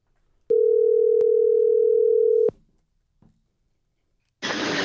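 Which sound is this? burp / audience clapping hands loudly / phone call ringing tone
phone call ringing tone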